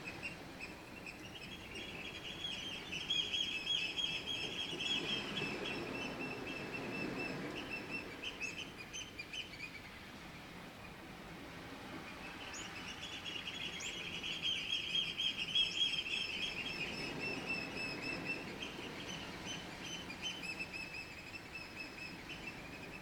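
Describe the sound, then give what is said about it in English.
Steady outdoor beach ambience at Hawks Beach with a broad wash of surf-like noise, and birds calling and chirping repeatedly, swelling and fading in two long waves. “And now at Hawks Beach.”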